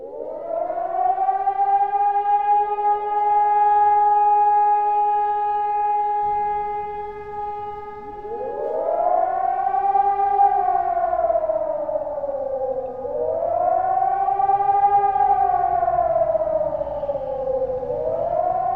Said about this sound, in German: Dort, wo es in Deutschland noch Sirenen gibt, wird es so wieder klingen am 8. Dezember, dem nationalen Warntag. Bundesweit ist er seit der Wiedervereinigung erst der zweite dieser Art.